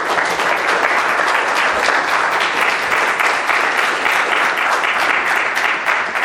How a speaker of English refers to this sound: And since you didn't applaud for any of the first three groups, why don't you applaud for yourself right now?